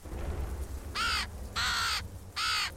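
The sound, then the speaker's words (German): A crow gives three loud, harsh caws in a row, each a raspy burst lasting under half a second, with short pauses between them over a low background rumble. “Eine Krähe und eine Vogelscheuche.”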